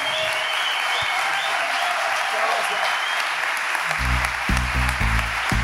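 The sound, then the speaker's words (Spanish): Sustained applause from the IUPA educational community at Artec 2019, after a conference on music and technology, a dense wash of clapping hands throughout, joined near the end by a few low, rhythmic tones like musical chords sounding over the clapping. “muchísimas gracias por haber compartido este momento aquí en este Artec 2019, la comunidad educativa de IUPA te reconoce con este aplauso.”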